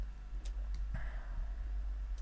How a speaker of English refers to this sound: Time's ticking.